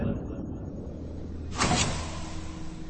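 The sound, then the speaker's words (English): The sliding door onto the Wild Card's bridge whooshes open with a short, bright hiss about halfway through, rising over a steady low mechanical hum that continues throughout. “The door slid open, and Card stepped onto the wild card's bridge.”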